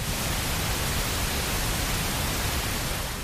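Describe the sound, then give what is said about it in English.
Steady, unbroken pink noise fills the whole stretch at a constant, fairly loud level, a smooth hiss weighted toward the lower end, with no voices or other sounds. “And this is an example of pink noise.”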